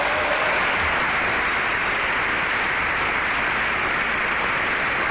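Steady audience applause fills the whole stretch, a dense, even wash of many hands clapping at constant loudness, with no voices over it.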